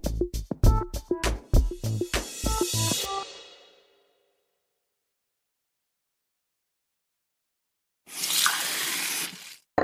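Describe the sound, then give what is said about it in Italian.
A quick run of bright, ringing drips or clinks gives way to silence, then a tap gushes steadily for a couple of seconds before cutting off. “Noi beviamo ogni giorno l'acqua del rubinetto, anche a scuola, perché è buona, sicura e controllata da Gruppo CAP.”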